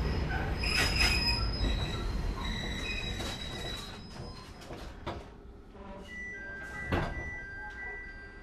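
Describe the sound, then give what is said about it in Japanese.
Train wheels squeal on the rails with high, sustained metallic tones over a steady rumble, broken by sharp clanks and a loud jolt near the end. The train is driver-operated, with fares paid into a fare box, and has a wide gap between train and platform. No one speaks. “電車とホームの間が広くなっております。”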